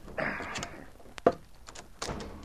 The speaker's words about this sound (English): The two men left their sleeping quarters and walked through the store. Leif unbarred the front door.